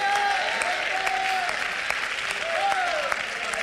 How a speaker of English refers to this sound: Would you stand to your feet and clap your hands and shout amen? Amen.